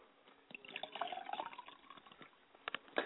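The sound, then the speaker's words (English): Liquid is poured into a glass as a libation, a soft trickling splash whose pitch rises as the glass fills, followed by a few small drips and clinks. It is fairly quiet, with no talking. “So let me do my pouring of libation and let's go into the talking cure.”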